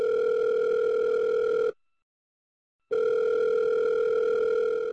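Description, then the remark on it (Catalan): A telephone tone from an outgoing call to Robert Sabé, emeritus climate change researcher at IRTA: a steady, loud, buzzy tone sounds, stops for just over a second of silence, then returns. No voices are heard. “ha trucat l'investigador emèrit expert en canvi climàtic de l'IRTA, Robert Sabé, per preguntar-li.”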